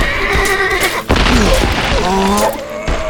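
A black horse whinnies loudly as it staggers and breaks stride, a shrill, wavering neigh that rises and falls over about three seconds, broken midway by a sudden heavy thud.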